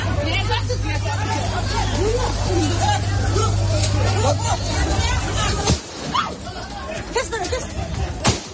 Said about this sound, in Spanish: Consiste en reclamar pan, trabajo y libertad. Es lo que gritaban las 40 valientes que ayer volvieron a desafiar a los talibanes y salieron a la calle a reclamar sus derechos.